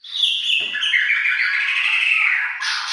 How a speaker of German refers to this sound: Diesen schönen Gesang, ihn singt eine Marantua-Schama. Die Verwandte von Rotkehlchen und Nachtigall lebt in Indonesien und dort nur auf der 24 Quadratkilometer großen Insel Marantua vor der Küste Borneos.